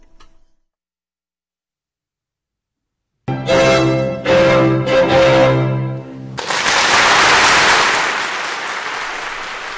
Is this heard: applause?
yes